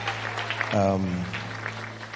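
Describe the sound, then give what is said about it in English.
An audience claps together for the previous speaker in a dense, steady patter of many hands, with a brief voiced call rising over the applause partway through and a low constant hum underneath. “Let's give him a big hand clap.”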